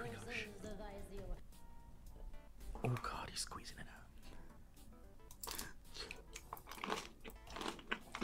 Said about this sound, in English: He's chewing jelly? There's like stuff in the jelly. The jelly with celery in it? There's nerds in the jelly? Maybe.